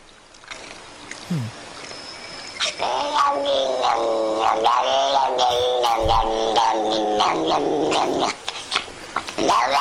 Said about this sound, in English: With 192,000 views, cat making weird noises. Cat makes weird noises. Wow, that's incredible. They're rubbing him with a little scratchy brush. They're brushing him.